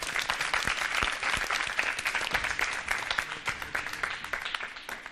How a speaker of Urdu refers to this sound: Team اے سے درخواست کروں گی یہاں تشریف لائیں, ان کے استقبال کے لیے تالیاں ہونی چاہیے.